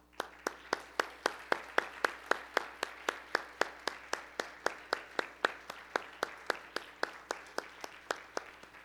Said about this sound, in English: If you're a veteran of any branch, would you please stand up? We'd like to give you a round of applause and say thank you.